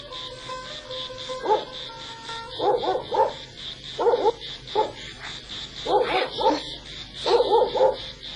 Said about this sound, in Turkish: Köpek bağlı mı? Bağlı, Esmaliye'de bağlı.